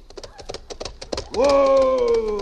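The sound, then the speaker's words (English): Quick, steady clip-clop of a horse's hooves trots for about a second, then gives way to a loud, drawn-out shout of "Whoa!" at the horse that holds over the final stretch. “Whoa! Whoa! Oh, come on, horse, whoa!”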